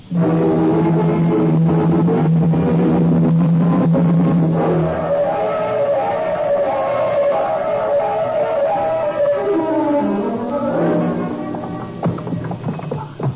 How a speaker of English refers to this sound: Truck entering the alley behind the candy shop.